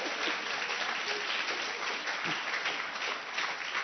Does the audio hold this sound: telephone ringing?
no